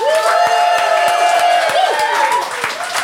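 A live audience bursts into sustained applause, dense clapping mixed with cheers and high whistles and whoops, loud and continuous for a few seconds before easing slightly at the end.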